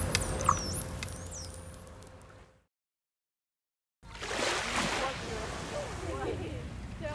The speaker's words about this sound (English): And you might be feeling calmed by the sound of the waves in the harbour here in Nice. I hope you are.